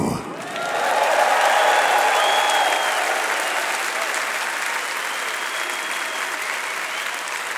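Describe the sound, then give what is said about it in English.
A large crowd roars with sustained applause and loud drawn-out yells of a band member's name, some of it actual booing, swelling within a second and holding steady for several seconds. “They're not booing, they're screaming his name,”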